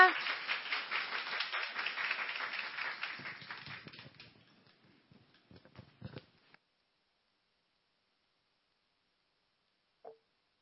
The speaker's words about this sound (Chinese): 拍手欢迎他。